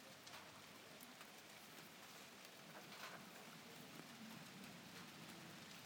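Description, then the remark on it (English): Steady rain patters on a hard surface with dense, continuous hiss and scattered individual drops, even in loudness throughout, with no voices present. “Here we go, here comes the rain.”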